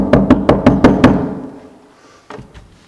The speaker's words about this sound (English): I don't know if they knocked on doors at the time or not. We'll pretend they did.